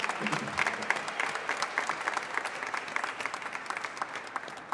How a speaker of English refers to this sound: Give a round of applause this morning.